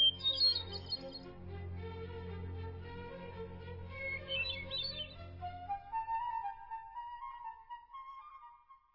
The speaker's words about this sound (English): Though the beauty of a bird song is something that may always elude scientific explanation.